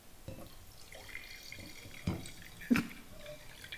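Wine trickles and splashes into a glass, with a few brief louder gurgles and clinks near the end; fairly quiet, no talking.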